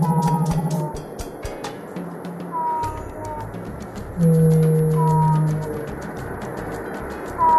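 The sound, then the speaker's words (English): Blue whale calls: long, low moaning tones and gliding sweeps, with a louder sustained low note midway through, over a constant hissing background and no talking. “And once we've seen what we came to see, we'll close our eyes and start listening to the mysterious sounds of blue whales.”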